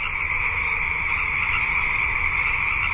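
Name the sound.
chorus frogs calling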